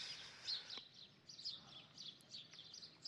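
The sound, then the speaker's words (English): Soft, high bird chirps repeat in quick, irregular bursts throughout, fairly faint, with no one talking. “Feel the earth, the dirt under your feet, and the wind caressing your body, and the coolness, and the chirping, joyful mornings of the birds.”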